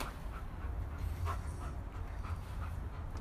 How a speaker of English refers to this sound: The dog. I hear Chewy.